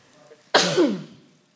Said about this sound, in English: I'm going to sneeze, I think.